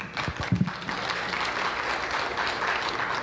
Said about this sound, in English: Let's give Scott a round of applause.